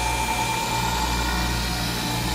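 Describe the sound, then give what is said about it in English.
A freeze dryer's vacuum pump runs steadily while freeze-drying food including a General Tao meal, a continuous mechanical drone with a low hum and a faint whine on top, holding an even loudness throughout with no voices. “Turned on the vacuum.”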